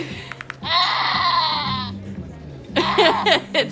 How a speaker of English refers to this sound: It's like a goat bleeding, but doesn't it sound like exactly like a screaming old man?